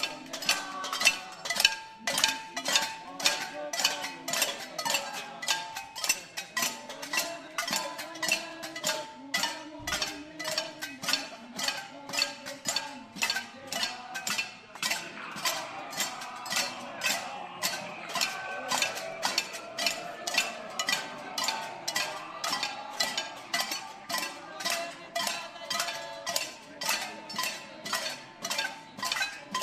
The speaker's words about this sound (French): Donc il y a une cinquantaine de personnes à peu près à cette manifestation. Et on chante en même temps qu'on fait des bruits de casserole.